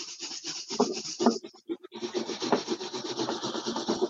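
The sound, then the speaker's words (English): A balloon is rubbed briskly against hair to charge it for a water-stream experiment, making a dense, scratchy rustling with a brief pause before the friction noise resumes steadily. No one speaks. “So give it another quick rub on your hair.”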